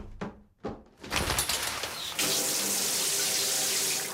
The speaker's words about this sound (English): I'm just back from a run. I'm going to jump into the shower for a second.